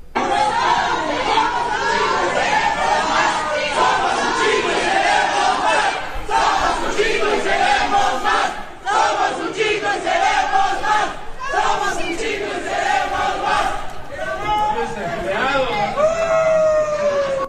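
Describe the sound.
A group of people at an airport shout together loudly and continuously as they confront a politician who skipped the check-in line, their angry overlapping voices forming a dense clamor that barely lets up for the whole stretch.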